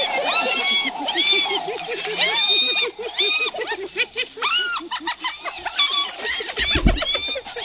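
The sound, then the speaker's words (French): A hyena howling and cackling: a string of loud, rising whooping calls mixed with rapid, high-pitched giggling bursts, repeating throughout with no talking. “Eh bien, c'est tout simplement le son d'un hyène qui hurle et qui ricane.”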